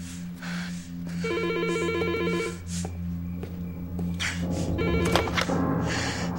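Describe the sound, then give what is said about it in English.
A telephone rings in repeated electronic trilling bursts, fairly loud, over a steady low hum and some muffled background clatter. “Don't touch that phone.”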